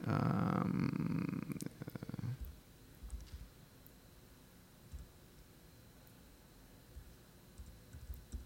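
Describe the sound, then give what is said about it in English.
Soft, scattered keyboard clicks, a quick burst of keystrokes early on and then sparse taps, following a loud, low rumbling purr in the first couple of seconds. No one speaks. “And by the way, if you see me mistype anything, please shout out.”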